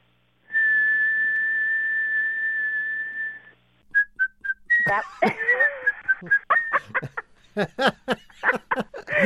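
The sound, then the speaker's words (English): A caller from San Antonio, Texas whistles a long, steady high tone to imitate her car's whistling noise, which happens when the air conditioning runs, then adds a few short whistled chirps before laughter and chatter break out. “My problem is that my car loves to whistle. And would you like me to make the sound for you?”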